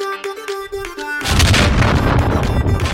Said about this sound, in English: Thunder boom.